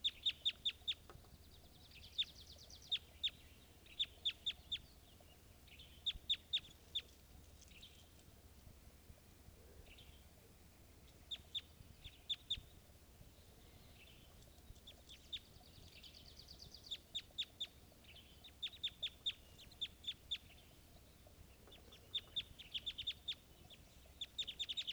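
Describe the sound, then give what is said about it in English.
A male and female pair of birds call back and forth in irregular bursts of sharp, high-pitched chirps and trills over a faint low rumble, with no one speaking. “And this is both birds.”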